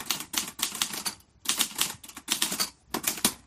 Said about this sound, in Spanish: Una máquina de escribir, una Olivetti de toda la vida. ¿Qué papel juega esa máquina en un momento tan trascendental?